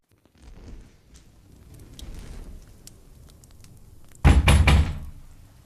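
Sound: knocking on a door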